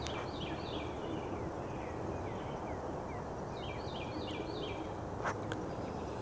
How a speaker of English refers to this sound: The weather looks gorgeous here in Franklin. There's not a cloud in the sky as the sun is rising. Oh, we didn't listen to the birds today, did we?